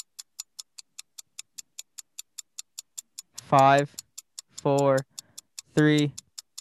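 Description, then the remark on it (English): A 10-second countdown timer in a guessing game ticks quickly and steadily from start to finish, crisp and evenly spaced, while three short, wavering voiced tones sound over it in the second half. “10 seconds left on the clock.”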